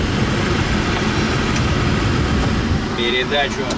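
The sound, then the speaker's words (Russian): A heavy four-axle dump truck, weighing over 17 tonnes empty and able to carry 32 tonnes of load, runs its engine with a steady, deep rumble that fills the whole clip without letting up, and a brief higher tone rises over it near the end. “Машина тяжелая, четырехосная. В снаряженном состоянии весит больше 17 тонн.”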